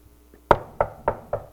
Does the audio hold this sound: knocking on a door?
yes